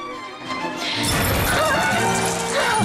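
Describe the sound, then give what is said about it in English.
A loud metallic crash rings out suddenly as a spinning dancer knocks a candelabra to the floor, followed by clattering and a ringing, jangling decay as heavy metal pieces hit a hard floor and settle. “As the music tempo picks up, she too gets faster and faster, spinning across the room, then crashing into a candelabra, sending it to the floor.”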